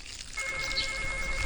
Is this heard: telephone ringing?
yes